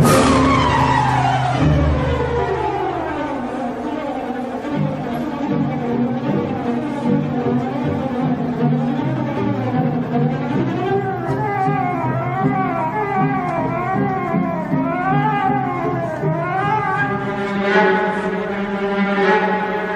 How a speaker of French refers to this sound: Et donc, cette musique représente donc le vol de ce bourdon pour rejoindre le bateau.